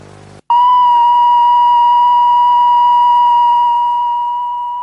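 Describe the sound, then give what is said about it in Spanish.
A steady electronic beep tone at a single mid pitch starts abruptly after a brief silence and holds loud and unbroken for over four seconds, slowly fading slightly toward the end. It comes from the late-night edition of the Telediario news broadcast of 13 December 1988. “Y bueno, con ese pitido y con esa selección de audios del telediario, de la edición de nocturna de última hora del telediario del 13 de diciembre de 1988, vamos a dar comienzo a la entrevista de hoy,”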